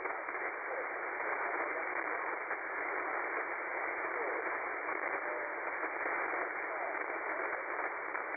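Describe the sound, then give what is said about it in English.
Steady hiss of shortwave amateur radio static and interference (QRM) during a contact with a maritime mobile station fills the whole stretch, a thin band-limited roar with faint crackling interference and no voice breaking through, loud and unbroken throughout. “very sorry, lots of QRM. Lots of QRM, Uka. I did not copy.”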